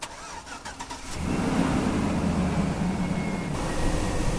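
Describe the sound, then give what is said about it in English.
The 5.3 V8 engine of a high-mileage 2004 Chevy pickup truck cranks with a few quick starter clicks for about a second, then fires up and settles into a loud, steady, rumbling idle. “This truck's actually a 2004, and it's a Chevy with a 5.3 V8 in it.”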